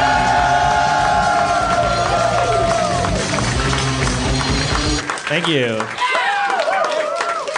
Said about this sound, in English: And a weird thing happened there, because I heard cheering and I was preoccupied and we're relaxed now.